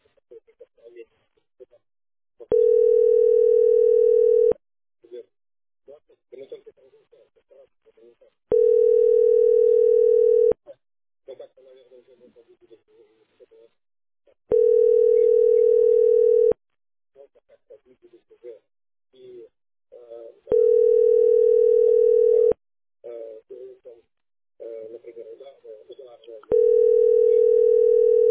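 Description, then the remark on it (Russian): A telephone ringback tone rings out unanswered as a caller fails to get through on two phone numbers: five long, steady buzzing tones, each about two seconds, repeating at regular intervals, with faint murmuring voices in the gaps between them. “Не дозвониться даем. По двум телефонам звоню.”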